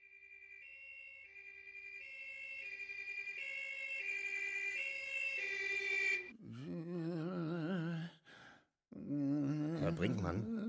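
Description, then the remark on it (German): An ambulance's two-tone siren alternates steadily and grows louder as it draws near, then cuts off as voices start talking. “Ich rufe einen Krankenwagen.”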